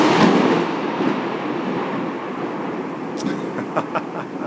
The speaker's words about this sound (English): Just as I was saying that, I hope you heard this mighty crash of thunder.